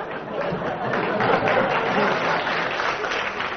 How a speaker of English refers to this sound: Is it something to do with identity? In its loosest sense, yeah. I should think a round of applause for that, yeah.